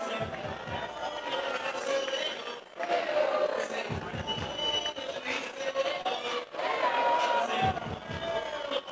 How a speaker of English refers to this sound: Crowd getting into it here tonight. 1,100 in attendance at historic Witter Field, looking to see a Raptor victory in Friday night fireworks.